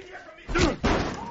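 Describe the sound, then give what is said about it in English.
Two heavy, booming blows pound against a door in quick succession, loud, with muffled voices faintly audible in the background. “open the fucking door, man.”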